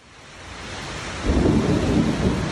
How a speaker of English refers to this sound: That's what we get after 93 degrees. Después de 93 grados hoy. Another 5 o'clock summer storm is ripping through the east side of Orlando.